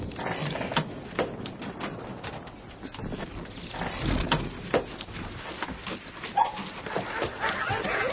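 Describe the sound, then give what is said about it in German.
Dogs bark in the distance, scattered and faint, under a steady rush of wind and water-like noise with occasional knocks and clatters. “Hört ihr die Hunde?”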